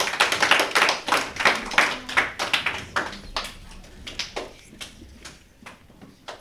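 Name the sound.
audience applauding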